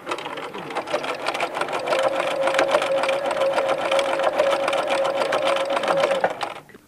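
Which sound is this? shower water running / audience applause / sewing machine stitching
sewing machine stitching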